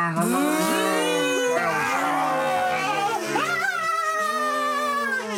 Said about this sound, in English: Wilhelm scream.